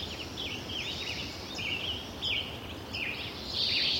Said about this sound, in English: This is the first one recorded in 2004. Beautiful. And the second in 2009, 5 years later. And the bird density is beginning to drop off at this point, partly because of global warming, we think.